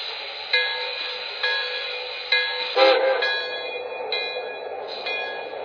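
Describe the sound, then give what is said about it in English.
A passenger train, number 25 from New York, pulls in on track one at Altoona station, with steady metallic rumbling laced with shrill, ringing squeals and a few sharp clanks at irregular intervals. No one speaks. “operating from New York on track one. Train number 25, the Metropolitan.”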